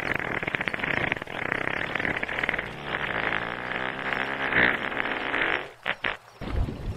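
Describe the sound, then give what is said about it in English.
A long, loud, rumbling fart-like blast from a humpback whale underwater, sustained and bubbly for about six seconds before breaking into a few short sputters. “Actually, humpback whale farts are so powerful, you can light them underwater.”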